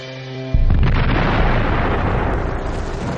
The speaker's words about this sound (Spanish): A las 7:28 se detonaron las enormes minas bajo las líneas alemanas que lanzaron tierra y rocas al aire.